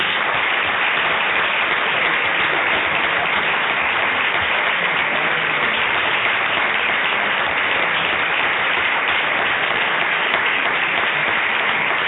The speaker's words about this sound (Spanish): Con lo cual, yo lo que quiero ya terminar toda esta intervención es pidiendo que un aplauso rubrique la presentación del primer premio a Ivanhoe.